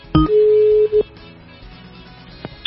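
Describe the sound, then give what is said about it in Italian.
A telephone line tone sounds as a call is placed to call someone back after a lost connection: a short chirp, then a steady beep lasting about half a second and a brief second beep, followed by quiet line hiss with faint clicks. “Provo a richiamarlo.”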